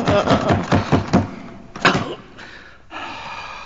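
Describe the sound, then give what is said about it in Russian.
A locked door is rattled and jerked several times in quick succession as someone tries to open it, followed by a single sharper knock or thud and some scraping, shuffling noises. “Это дверь. Ясно, она не доходит до верха, а я смотрел поверх ее.”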